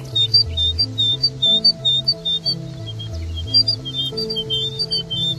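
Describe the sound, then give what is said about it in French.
A whistled imitation of a great tit's song, with two different sounds of the same bird: bright, high two-note phrases repeated in a quick, even rhythm, clear, over a low, shifting hum of tones underneath. “La petite mésange charbonnière.”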